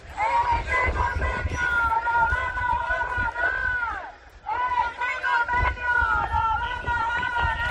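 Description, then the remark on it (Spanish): A large crowd of metal-sector workers protesting in Cádiz, Spain, chants the slogan "Convenio, lo vamos a ganar" in unison, loud and sustained, in two long rhythmic phrases split by a brief pause, over a low rumble of crowd noise. “Convenio, lo vamos a ganar, es lo que han gritado esta mañana trabajadores del sector del metal, descontentos con el preacuerdo acordado esta madrugada entre la patronal y el sindicato UGT.”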